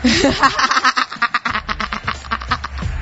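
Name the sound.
duck quacking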